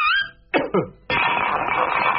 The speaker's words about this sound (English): So, not with a bang, but a whimper. And then with a sort of cough and the pan lid falling on the floor, rolling around a bit.